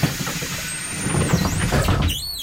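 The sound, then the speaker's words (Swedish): A bus on line 164 rumbles, its engine droning low while high-pitched air brake squeals whine and bend in pitch over the noise, with a final sharp hiss-like squeal at the end. “Välkommen längst bak i bussen.”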